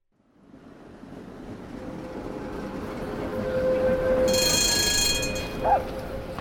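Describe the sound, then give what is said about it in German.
A tram in Salzburg rumbles closer, its broad rolling noise swelling steadily, with a long squealing tone from the rails and high metallic screeching as it draws near, then a couple of brief clanks. “Achtung, spring schnell zur Seite, die Straßenbahn kommt.”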